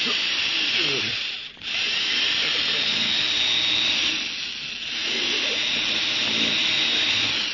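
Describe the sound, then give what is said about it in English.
A loud, steady power drill grinds continuously, boring into a vault in the Boston Blackie drama, with two brief dips where it eases off before roaring back at full strength. “You think I've drilled into this vault deep enough now, Mr.”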